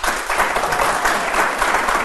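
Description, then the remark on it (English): A live audience claps steadily for about two seconds to show they like themes for Science or Fiction, a dense, even wash of many hands at moderate loudness with no voices standing out. “Do you guys like clap if you like themes for science or fiction.”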